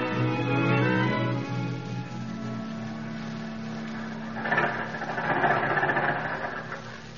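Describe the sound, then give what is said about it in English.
An old car engine in a DuPont-presented radio drama runs with a steady, low droning hum and buzzing overtones as the car arrives at a farm, louder at first, then settling into an even idle with a slight surge toward the end. “Never thought the old car'd make it.”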